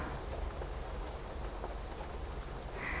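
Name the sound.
rain falling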